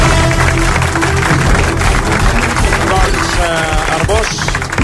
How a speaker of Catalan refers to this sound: Moment, que no et sento tants aplaudiments, que t'aplaudeixen més que a la Pantoja, digues.